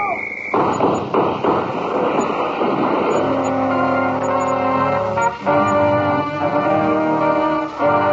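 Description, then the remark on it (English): A new car smashes through a barricade across a street with a burst of loud crunching and thudding impacts, then a steady droning engine-like tone carries on. “Look up ahead. A barricade across the street. Well, we go through it.”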